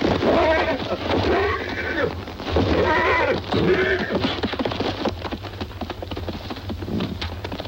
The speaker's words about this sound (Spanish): Le pone la cabezada y lo coge por la brida. El caballo se levanta sobre las patas traseras, pero finalmente trota en círculos guiado por Lud.